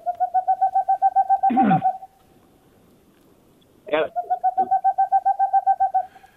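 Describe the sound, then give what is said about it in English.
A boreal owl calls in rapid, evenly spaced hooting trills, two bursts of about a dozen notes each separated by a short pause, fairly loud and clear, with brief rustling noises between. “I mean, are there boreals that come this far south?”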